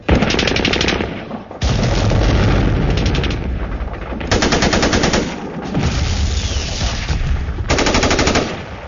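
Sustained bursts of enemy heavy machine gun fire during Operation Kheibar, rapid regular reports stacking into loud, dense volleys with brief gaps between them, all under a low rumbling boom.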